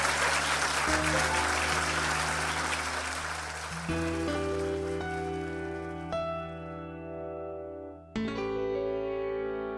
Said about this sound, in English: Ladies and gentlemen, big round of applause for Marcus Chown.